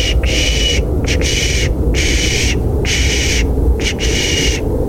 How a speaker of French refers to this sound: Quelqu'un qui active son micro. Ça fait assez bizarre. C'est un bruit mécanique. Ça peut faire penser à du morse ou quelque chose comme ça.